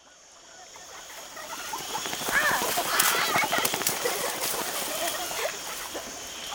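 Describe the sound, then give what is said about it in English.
Jungle ambience beside a lake: a dense, steady wash of outdoor sound with scattered chirps, small splashes and pattering clicks that swell slightly after the opening second and stay fairly even. “In the jungle, by the lake.”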